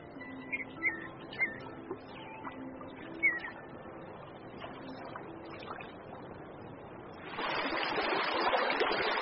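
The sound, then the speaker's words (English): A stream in Yellowstone, swollen by cascading snowmelt, flows steadily with a constant watery hiss while birds chirp and trill over it; near the end the rush of water swells suddenly louder. “Cascading snowmelt swells the streams and rivers.”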